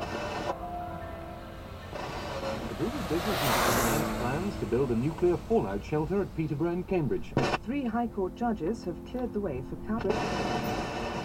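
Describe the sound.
A car approaches from behind and whooshes past, its rushing noise swelling loudly and then fading away ahead, before a man's voice begins speaking over a steady background hum.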